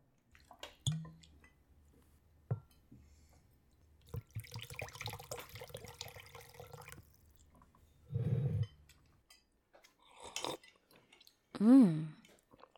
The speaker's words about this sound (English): It's nothing fancy since it's just a pre-made takeaway meal, but you go ahead and eat that while I pour the drinks.